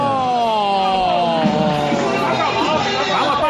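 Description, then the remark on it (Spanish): A dense crowd of Huesca football fans at the El Alcoraz stadium roars and chants together as the match ends with Huesca promoted to the first division, many overlapping voices forming a steady, loud wall of sound that holds for the full few seconds. “¡El sonido del Alcoraz!”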